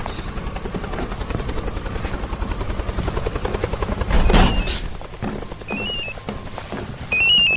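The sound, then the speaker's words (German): Steady, rapid rotor thumping from helicopters fills the scene, swelling louder around the middle as they approach, with brief high electronic beeps chirping near the end. “Da kommen die Hubschrauber.”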